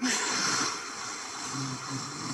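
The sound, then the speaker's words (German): One long, steady exhale forced through a tightened throat, making a breathy hiss like fogging up a mirror, with a faint rasp running through it. “wie wenn man eben den Spiegel anhaucht, so einen Widerstand erzeugt, den macht man dann automatisch, dass man so ein bisschen die Muskulatur im Hals anspannt bei der Ausatmung”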